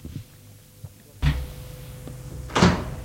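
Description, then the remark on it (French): A door opens with a solid clunk of the latch, followed a moment later by a brief rushing swish as it swings, over a faint steady hum with no voices. “La porte s'est ouverte.”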